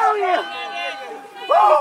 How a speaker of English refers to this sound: He lets out an emphatic yell as he crosses the finish line.